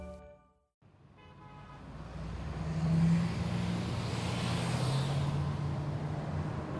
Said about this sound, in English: I battle freeway traffic first thing every weekday morning. Traffic! I've got to cut across lanes of cars. Can you please let me over, kind person?